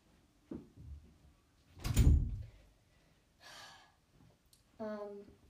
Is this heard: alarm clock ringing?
no